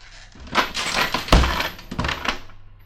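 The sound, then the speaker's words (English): A trap door in a house slams shut with a loud, heavy thud, surrounded by a burst of rattling, clattering crashes of breaking dishes that ring out briefly before fading. No one speaks. “I shouldn't have let it slam.”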